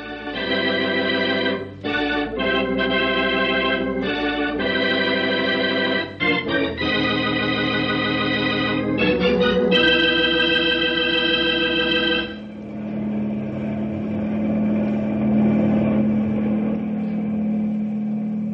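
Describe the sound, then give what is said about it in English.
A loud helicopter engine drones at a steady pitch, briefly cutting out and resuming several times, then settles into a rougher, noisier continuous roar over a low hum, as Storm is to be loaded aboard. No one speaks. “We'll get Storm aboard the copter.”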